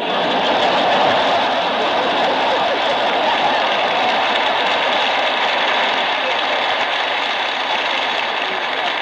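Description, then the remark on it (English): A steady, broad rumble of trains running continuously beneath a building built over Pennsylvania Station, with a dense rolling roar and faint rattling, heard loud and constant throughout without pauses. “They sure have a crazy set of trains in the basement.”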